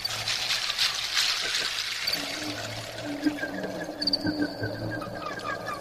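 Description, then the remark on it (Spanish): Water trickles and gurgles steadily, a soft continuous pour with bubbling splashes, moderately quiet, with no voices present. “agua”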